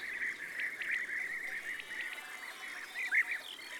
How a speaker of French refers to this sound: un vol de guêpiers survole la prairie en voltigeant assez haut et en lançant des cris typiques. Cruic, cruic, cruic, cruic. On les entend toujours avant de les voir.